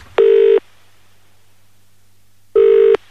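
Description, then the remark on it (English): Two loud electronic telephone tones on a line, each a short buzzing burst, separated by a two-second pause, as a call is placed to a radio station's number. No voices. “when you call up the normal Radio 1 number”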